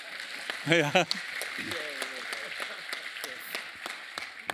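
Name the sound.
audience applauding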